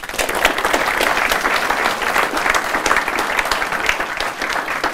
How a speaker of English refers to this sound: So a little round of applause for that.